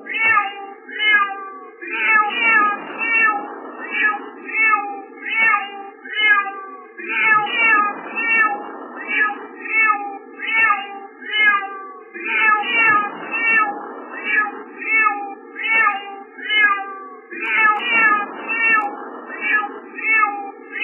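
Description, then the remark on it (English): A cat meows loudly and insistently, over and over in a steady repeating rhythm for about twenty seconds, each cry drawn out and whiny, with no talking. “If you're on the job site, blare this for the next 20 seconds so your coworkers are like, why is there a cat on the site?”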